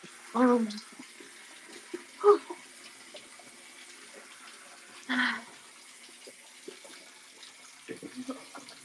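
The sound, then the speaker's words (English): Hot shower water runs in a steady, even hiss throughout, while a few short, muffled vocal sounds rise briefly above it at scattered moments. “I could just stand under this water.”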